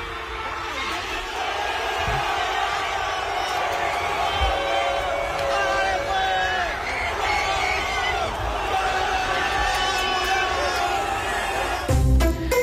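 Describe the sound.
A stadium crowd at the Estadio Azteca in Mexico City roars continuously during a Colombia–Uzbekistan football match won 3-1 by Colombia, with loud male voices shouting and cheering in celebration over a dense wall of noise that stays intense throughout, punctuated by a few dull thumps near the end.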